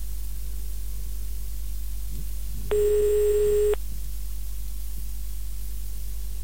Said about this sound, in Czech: Na ministerstvu průmyslu a obchodu na tiskovém oddělení nikdo nebere telefon. Kde jsou asi pracovníci?